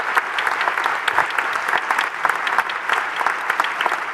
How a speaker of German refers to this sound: Okay, einen großen Applaus für unser Podium. Vielen Dank.